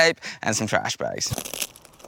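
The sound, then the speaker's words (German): Plastic bags crinkle and rustle with quick, scratchy bursts as tape is handled to make improvised rubber boots from plastic bags and tape for crossing a swamp, following a stretch of voices talking at the start. “Aber wir basteln uns einfach Gummistiefel aus Plastiktüten und Klebeband.”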